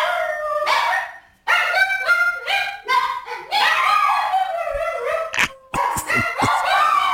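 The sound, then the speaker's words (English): Several dogs bark and howl excitedly together as their owner comes home, loud, their high yips and drawn-out wavering howls overlapping almost continuously with only brief gaps. “This is what it sounds like when Alicia or I come home.”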